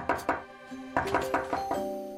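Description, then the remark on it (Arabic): A doorbell chimes repeatedly as someone comes to the door early in the morning: about six bright ringing tones struck in quick succession, each note sustaining and overlapping the next at a moderate volume, with no one speaking. “أوف، من ذا الذي جاء يقرع الباب هكذا في الصباح الباكر؟”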